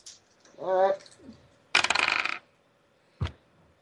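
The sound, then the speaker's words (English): A quick burst of hard, rattling clicks as percentile dice tumble across a table for a drive skill roll, coming up 99, lasting about half a second, followed moments later by a single sharp knock; a brief tonal murmur comes before. “My dice have finally failed me.”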